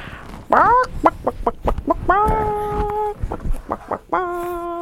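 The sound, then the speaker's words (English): A chicken clucks in a quick series of short clucks, broken by two drawn-out squawking calls, with no talking over it. “Chicken say.”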